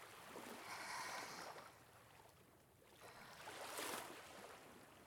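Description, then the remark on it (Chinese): Sea waves wash in and recede at the seaside, a broad hissing surge swelling twice and fading between, steady with no voices. “伴随着大海的潮起潮落，总是那么心旷神怡，好像一切都能融入着呼吸之中。”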